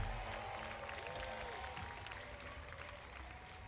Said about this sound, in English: This is these guys' first time up on the hill. So give them a big cheer for that, folks.